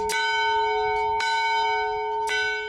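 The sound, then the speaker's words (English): An old bell from a 1900 schoolhouse, brought to Boys Camp, rings three times at a steady pace, each clang loud, its bright metallic tone sustaining and overlapping into a continuous ringing hum. “When Boys Camp imported this bell from a 1900 schoolhouse, it was a big deal.”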